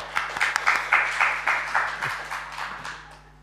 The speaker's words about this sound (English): Can we give these three a little round of applause?